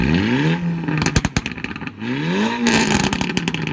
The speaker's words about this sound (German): Sogenannte Auspuffklappen, die klingen so.